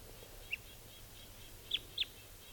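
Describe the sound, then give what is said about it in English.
Three short, high type 2 crossbill call notes, the alternate type 2 call: a single chip, then a quick pair about a second later, against faint outdoor background hiss. “There's the alternate type 2 call.”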